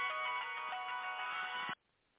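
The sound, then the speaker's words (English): A phone timer alarm rings loudly and steadily, a bright electronic tone that sounds continuously for under two seconds, then cuts off abruptly into near silence. “Probably a timer or something on somebody's phone.”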